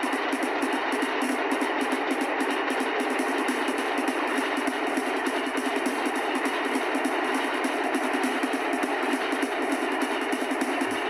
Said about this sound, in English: Say, what's that behind me? Something behind me. Yeah! Black rig, that black semi-truck! Just appeared out of nowhere, like it came out of the storm itself.